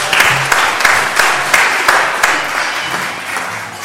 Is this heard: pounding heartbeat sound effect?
no